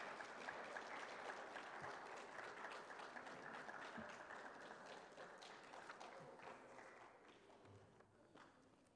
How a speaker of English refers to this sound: Hey, man, let's give them one more round of applause, shall we? Wow.